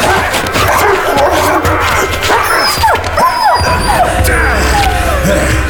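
Two dogs bark and yelp in a frantic scuffle, with sharp rising yips and whimpers piling up mid-way through, over a dense, loud, noisy background of crashing and movement.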